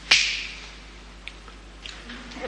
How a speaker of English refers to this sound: Now, when I snap my fingers, you will wake up.